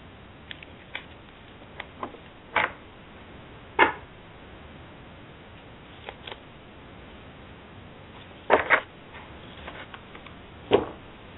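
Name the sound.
shuffling cards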